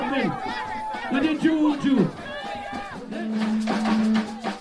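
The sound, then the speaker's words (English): A dense, lively crowd of people cheers and shouts at a street celebration in St. Lucia, many voices overlapping in whoops and rising yells, with a long sustained shout carrying through the last seconds. “everybody here is representing Julian Alfred, celebrating and having a lot of fun today”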